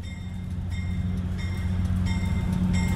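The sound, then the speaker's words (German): A White Pass and Yukon Route train rolls steadily along the rails from Fraser, descending steeply from the 1000-metre White Pass toward Skagway on the Pacific coast, with a deep, continuous rumble and evenly spaced clacks from the wheels passing over track joints, with no voices. “In Fraser lädt die White Pass and Yukon Route zu einer spektakulären Zugfahrt ein.”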